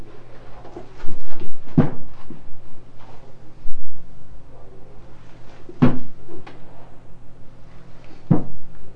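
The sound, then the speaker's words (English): A cabinet door in front of a refrigerator is opened and shut repeatedly, with three sharp wooden knocks and clacks spaced a few seconds apart, over low background hum and some faint rustling. “You were in front of the refrigerator saying tooka tooka, but you weren't playing with the door, playing with the cabinet door.”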